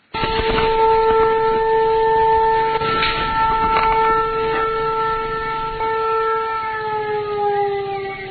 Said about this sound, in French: Cette sirène qui retentit chaque matin comme au beau vieux temps de la Gécamine ou de la SNCC, c'est bien à l'entreprise minière de Kisenge. Nous sommes dans la cité du même nom, à près de 700 km au nord-ouest de Lubumbashi.